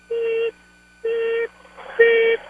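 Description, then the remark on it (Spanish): A radio caller from New Jersey imitates a car's reversing beeper, mimicking how a pro-independence supporter drives a car in reverse, with three steady, mid-pitched beeps, evenly spaced about a second apart; the third is louder and rougher than the first two. “Le voy a decir cómo hace un independentista con el carro. Ajá. En reversa le hacen.”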